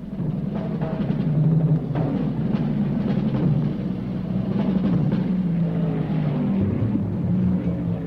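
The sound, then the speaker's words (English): Loud, continuous roar of several racing car engines revving and accelerating together at the running start of a race at Daytona, including Surtees' number 77 Ferrari on pole and Bob Bondurant's number 72 Ford GT; a dense low rumble with shifting engine tones throughout and no voices. “Car number 72 Ford GT, Bob Bondurant on the outside. And the race is on.”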